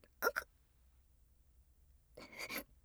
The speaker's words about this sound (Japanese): まったく、なんと下品な悪魔でしょう。私にこのような汚い放屁を何度もさせるなんて。